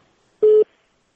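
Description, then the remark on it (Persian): A single short, steady electronic beep of a telephone busy tone as a listener's call to Radio Azadi is cut off, clear and fairly loud against silence, with no voices around it. “متاسفانه چه تلفن قطع شو.”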